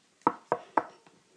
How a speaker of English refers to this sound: They finally arrived and the mum knocked on the door.